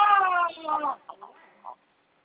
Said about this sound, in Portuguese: É, você tem neném pequeno? Ai, que chorinho mais doçoso.